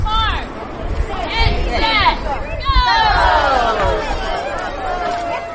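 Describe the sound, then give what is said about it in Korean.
A crowd of about 150 children shout and cheer excitedly on an outdoor lawn as an Easter egg hunt begins, gathering egg-shaped containers into their bags and baskets, their high voices overlapping in a lively babble that swells and stays loud throughout. “달걀 찾기 시작을 알리자 아이들은 환호성을 지르며 눈에 보이는 달걀을 자신의 가방이나 바구니에 담기 시작했지요.”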